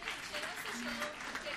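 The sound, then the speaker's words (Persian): A steady burst of audience applause for a gift, many hands clapping together, with a few voices faintly mixed in beneath the clatter. “خیلی خب، من خودم یه هدیه در نظر میگیرم، هدیه رو تشویق کنید.”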